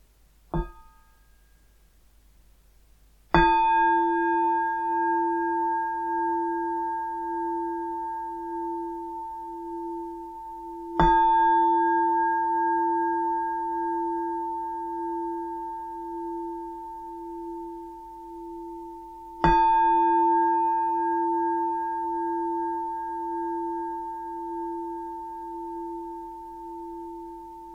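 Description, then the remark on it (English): Three meditation bells are struck one at a time, several seconds apart, at the start of a meditation on emptiness. Each one rings out with a bright attack and a long, gently pulsing hum that lingers until the next strike. No one speaks. “I'm going to do a meditation on emptiness now, starting with three bells and the usual settling in introduction.”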